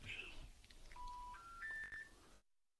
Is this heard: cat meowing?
no